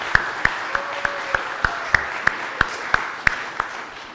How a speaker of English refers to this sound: Let's just give her one more round of applause for all that she's done.